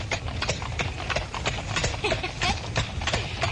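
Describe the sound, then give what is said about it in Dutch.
Steady clip-clop of the hooves of a real horse named Blackie pulling a real carriage, a brisk regular rhythm of sharp knocks, with a low rumble of wheels underneath and faint voices in the background. “Echte koets en een echt paard.”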